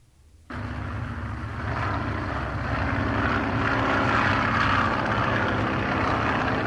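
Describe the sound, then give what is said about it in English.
A propeller airplane engine starts abruptly and settles into a loud, steady droning roar that holds and swells slightly, with no voices. “Now, go out front door, out to your front door, and get into that airplane that's waiting outside.”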